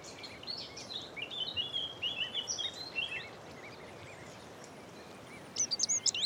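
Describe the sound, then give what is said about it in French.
A dunnock sings a quick, high, jumbled warble lasting a couple of seconds, then starts another brief burst near the end, set against steady outdoor background hiss. “On a un assenteur mouché, et un chant qui est un peu plus roulé.”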